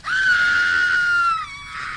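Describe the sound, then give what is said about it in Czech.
A woman's shrill, sustained, loud scream as she falls, holding steady for over a second before dropping off into a fainter, breathy tail. No talking. “A když vystřelil, spadla čarodějnice s křikem dolů.”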